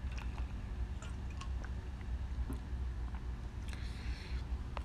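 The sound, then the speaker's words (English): Someone drinks water, with soft gulps, wet mouth clicks and small squishy sounds scattered over a steady low hum. No one speaks. “I'll drink some water real quick.”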